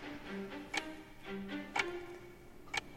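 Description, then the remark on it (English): A clock ticks steadily after being started at a chess match in Reykjavik, three crisp clicks spaced about a second apart over a soft, humming background, with no one speaking. “The clock has now been started.”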